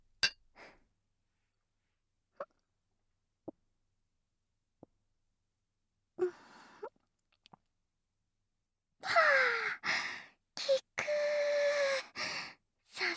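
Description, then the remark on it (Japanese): Glasses of a strongly carbonated drink clink lightly in a toast: three or four brief, ringing taps spaced a second or so apart, followed by rustling and a long breathy exhale. “では乾杯しましょう。”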